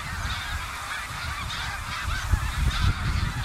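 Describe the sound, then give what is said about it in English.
A large flock of snow geese honks continuously overhead as it flies north in New England, a dense, overlapping chorus of calls at steady volume, with low rumbling wind noise underneath and no talking. “I mean, I think that these geese are one of the great natural events in all of New England.”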